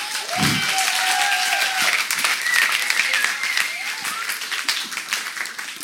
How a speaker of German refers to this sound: Und es vergeht eigentlich kein Tag, davon können wir dann echt mal einen Applaus geben.